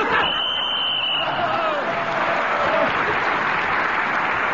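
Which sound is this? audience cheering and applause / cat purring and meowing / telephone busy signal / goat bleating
audience cheering and applause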